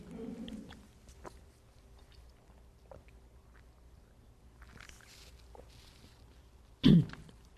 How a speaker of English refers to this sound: And I should take some water at this point.